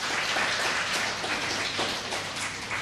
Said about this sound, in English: So with that, may I ask my volunteers to come up? I've selected a couple of volunteers before service. Yeah. Yes, that's you. Thank you. Let's give them a clap to encourage them.